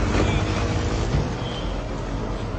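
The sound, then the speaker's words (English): Steady, dense road traffic noise at a street intersection, with a constant low engine rumble and broad hiss, like heavy vehicles idling and moving through a busy street, with no clear pauses. “This is at an intersection, by the way.”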